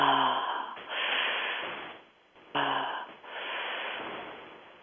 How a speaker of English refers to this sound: And a very simple breath, this is from Dallas Erotic Massage, which is where you breathe in through the mouth and out through the mouth. And you're breathing in like you're sucking air through a straw. So, and then just letting the breath fall out.